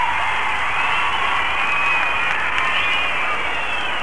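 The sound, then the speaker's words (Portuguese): A large stadium audience claps and cheers in reaction to a stage dance performance, a steady, dense roar of applause that holds at an even loudness for the full four seconds, with no voices standing out. “E você pode sentir a reação da plateia.”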